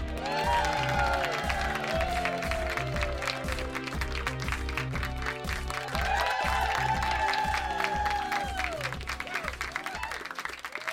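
A large audience claps and cheers steadily for about eleven seconds, a dense roar of hands with scattered whoops rising above it, never letting up.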